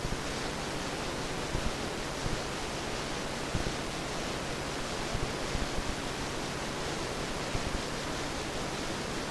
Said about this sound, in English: Pink sound is just what you hear, a sound that contains all sound. It is called pink to indicate that the sound volume in the higher and lower ranges has been adjusted to compensate for hearing losses in the typical human ear.